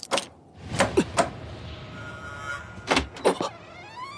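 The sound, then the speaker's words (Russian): A window slides shut with a scraping rumble and a few sharp wooden clacks, followed by more knocks and clicks as the latch is fastened, with no talking. “На всякий случай, закрою окно на задвижку.”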